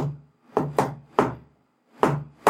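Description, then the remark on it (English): A patterned knock on a wooden door: two quick raps, a third after a beat, a pause, then two more. Each hit is a solid, hollow thud with no voices. “Alright, do the special knock.”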